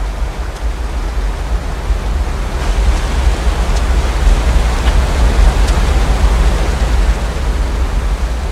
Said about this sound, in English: He looks down at the swirling torrent below and wrestles with his emotions.